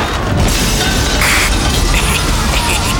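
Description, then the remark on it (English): A loud, sustained crash of grinding and shattering, like a ship hull scraping into ice, with a deep rumbling boom underneath that fills the whole moment without a pause. “Some people might say the icebergs have won, but I say we're crashing into icebergs over here, so we don't have to crash into icebergs at home.”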